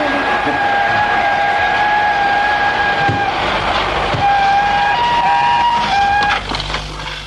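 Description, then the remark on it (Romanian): A steady, high locomotive whistle sounds over rumbling machinery, followed by several quick whistle blasts as the loud mechanical noise tapers off and the train stops, in the evening as it nears the end of a gorge crossing rocky mountains. “În cea de-a treia seară, tocmai când garnitura se apropia de capătul defileului care traversează munții stâncoși, locomotiva scoase câteva fluierături repezi și trenul se opri.”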